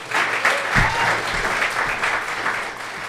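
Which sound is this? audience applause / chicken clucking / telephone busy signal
audience applause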